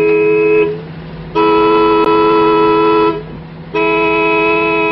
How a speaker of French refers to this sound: Allez, klaxonnez encore. Encore.